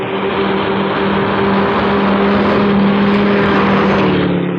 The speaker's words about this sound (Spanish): Un carro viene por la calle. Por la calle oscura, corre un automóvil de modelo antiguo. Sus faros rasgan la sombra.